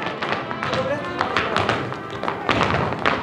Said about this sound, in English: Dancers spin around the floor. Some dance the male role, known as the boot. Stomping their feet with their hands on their hips, others twist big, bright skirts into the air, making the fabric twirl. The movements are the folk dances of Mexico.